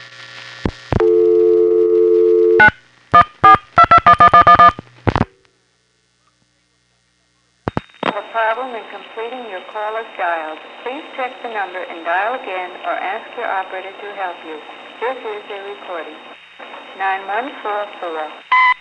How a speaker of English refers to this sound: dialing a number in the 914 NPA. This goes to the vacant code recording in the White Plains No. 1 crossbar tandem over N1 carrier. You'll hear the call go through to the recording, and then I'll reset the trunk using this method.